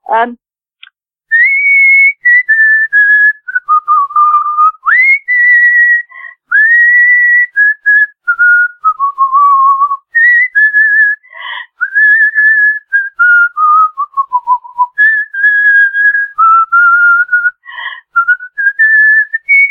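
A person whistles a long, wavering melody alone, clear, with sliding pitches, short pauses between phrases and occasional breathy or clicky mouth sounds.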